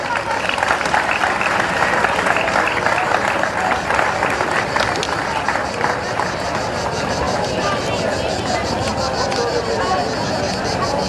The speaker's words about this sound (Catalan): Un fort aplaudiment.